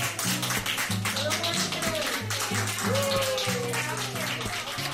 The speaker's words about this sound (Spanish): Son los aplausos del personal de la unidad de cuidados intensivos del Hospital Gregorio Marañón de Madrid.